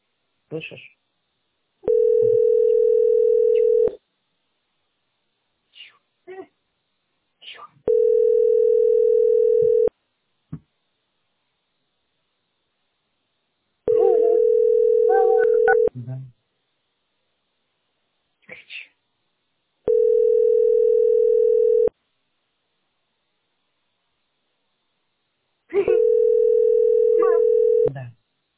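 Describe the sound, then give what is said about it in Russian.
Outgoing call ringing tone as Mom makes a phone call: five long, steady mid-pitched tones, each about two seconds, repeating at even intervals, with faint short rustles and brief murmurs in the gaps between them. “Мама звонит.”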